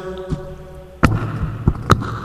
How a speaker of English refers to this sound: I'm going down in my basement. All right. Okay, I don't know where exactly, I'm banging in the floor,